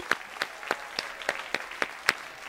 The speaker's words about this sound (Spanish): Vamos a darles un aplauso a tus amigos. Venga, un aplauso.